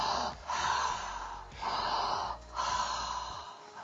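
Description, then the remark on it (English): Slow, airy mouth breathing, reset breaths in and out through the mouth, with three long, breathy inhale and exhale phases in a steady rhythm, fairly soft, with no talking. “Just to finish off on two reset breaths. So breathing in and out via your mouth.”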